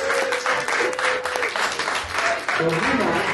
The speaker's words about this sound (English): I think we should applaud